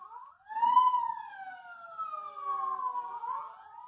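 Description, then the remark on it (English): A state police siren wails with a long, sliding tone that rises and falls smoothly, fairly loud and steady throughout, as all roads around San Miguel Prison are blocked off, with no voices over it. “Sirens, state police, militia, all roads blocked off.”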